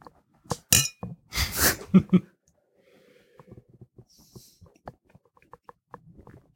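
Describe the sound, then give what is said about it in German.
Beer glasses clink together in a toast, a couple of bright, sharp knocks with some handling noise, followed by quieter scattered taps and faint movement. “Ich sag mal Prost. Cheers.”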